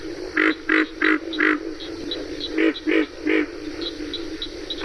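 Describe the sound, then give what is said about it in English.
Pig frog grunting calls in Okefenokee come in two quick bursts, first four low grunts and then three, loud over a steady buzzing chorus in the background. “Well, the most prominent frog, I believe, in Okefenokee, the one that everyone hears, you can hear it day and night, is the pig frog, which grunts like a pig.”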